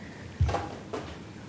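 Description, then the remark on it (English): A heavy chair is shifted into place at a city government meeting with two short scraping bumps, a solid low thud followed by a lighter scrape, with no talking. “This chair is heavy.”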